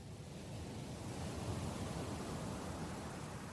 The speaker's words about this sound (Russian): Вы на берегу ласкового теплого моря. Вы слышите легкий, мягкий шелест волн. Приятные звуки успокаивают, убаюкивают вас.